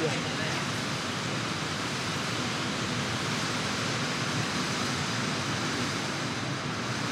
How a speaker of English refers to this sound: Can you still hear me? Could you turn all that rain down?